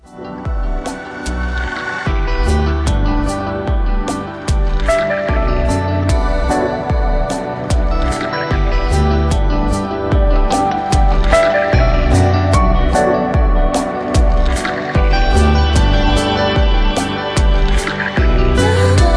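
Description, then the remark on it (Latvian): A parliamentary voting call bell plays as a loud, steady melodic chime, its notes striking in a regular rhythm for almost twenty seconds, clear with no one speaking, calling members to vote on proposal number 21. “Lūdzu zvanu, balsosim par 21.”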